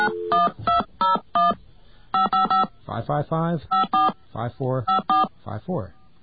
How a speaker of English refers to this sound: why don't you talk about something while I try and dial this in my sneaky way?